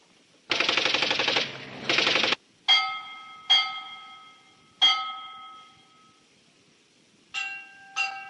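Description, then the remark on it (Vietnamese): Two loud, rapid bursts of machine-gun fire rattle out, followed by five separated sharp metallic strikes that ring with bright, lingering tones. No one speaks. “À, cái gì mày nổ như bắp rang vậy mày?”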